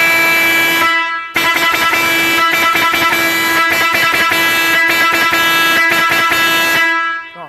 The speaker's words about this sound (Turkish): Evet, şimdi diğer kornamız gemi kornamız, vabis kornamız. Şimdi hemen onu dinleyelim. Şimdi onu dinleyeceğiz. Gemi kornasını dinleyeceğiz. Gemi vabis kornasını şimdi dinleyeceğiz.